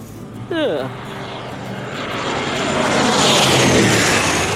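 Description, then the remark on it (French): An airplane touches down in Switzerland after an eight-hour flight and rolls along the runway, its engine roar swelling into a loud, steady rushing drone, with a brief sliding squeal near the start. “Voilà, l'avion s'est posé. Après quelques tours sur la piste, les passagers vont enfin pouvoir descendre.”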